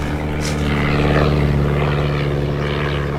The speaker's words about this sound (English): that aeroplane.